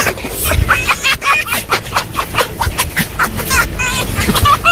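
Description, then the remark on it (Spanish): A fox laughing: a rapid, unbroken run of high, squeaky cackles and chattering yelps, fairly loud and rhythmic, with no people talking. “¿Habéis oído alguna vez cómo se ríe un zorro?”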